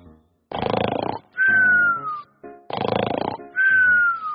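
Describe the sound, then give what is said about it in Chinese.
A voice imitates snoring twice: each cycle is a rough, rattling inhale followed by a loud, whistling exhale that slides downward in pitch, repeated in a steady rhythm. “除了打嗝这种声音呢，其实我们还会发出很多声音，比如说睡觉的时候打呼噜的声音。”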